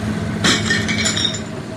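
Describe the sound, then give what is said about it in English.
A sharp crunch as a doll is crushed under a car wheel, followed by a second, lighter crackle, over a steady low engine rumble. “The car went over the doll and made a crunching sound as it broke.”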